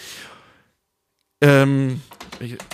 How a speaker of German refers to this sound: mir ist die Mundharmonika auf die Tastatur gefallen.